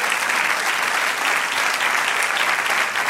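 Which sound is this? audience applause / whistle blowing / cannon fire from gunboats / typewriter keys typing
audience applause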